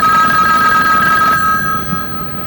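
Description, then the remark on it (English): A telephone rings with a steady electronic trill that cuts off partway through, leaving a faint fading tone and quiet room noise; no one speaks. “That's a little phone.”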